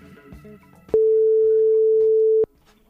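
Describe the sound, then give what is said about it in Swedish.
A telephone ringing tone sounds as the Mix Megapol radio morning show places a call: one loud, steady mid-pitched beep lasting about a second and a half, starting and stopping abruptly over a faint musical background. “Jag ringer och ser.”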